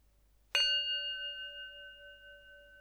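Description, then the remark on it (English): A single meditation bell is struck once at the start of a guided head-to-toe body-scan meditation, its clear, pure tone ringing out and sustaining with a long, slowly fading resonance in otherwise quiet surroundings. “So we'll just go through from head to the toe, and I'll start with three sounds of the bell.”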